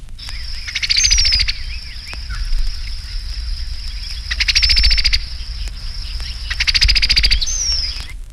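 A female cowbird gives three short bursts of dry, rapid chatter, each about a second long, over a steady high-pitched hum of insects or frogs in the background.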